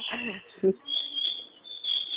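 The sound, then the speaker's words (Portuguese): A bird chirps steadily in high, thin, repeated notes throughout, fairly soft, with faint low voice-like murmurs and a brief dull bump near the start. “É passarinho mesmo?”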